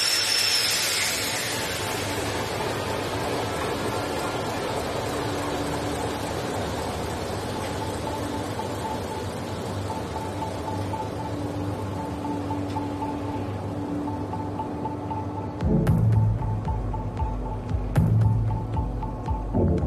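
The 8ZL 40 diesel engine of the boat Joseph Rotti 2 rumbles steadily with a droning, tonal hum, then near the end surges into heavier, louder low-pitched thumping bursts as it is started up. No one speaks.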